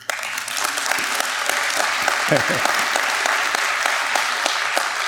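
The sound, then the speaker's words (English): An audience breaks into sustained applause, a dense, steady wash of many hands clapping at even loudness for several seconds, with a brief murmur of voices rising partway through. “You can clap.”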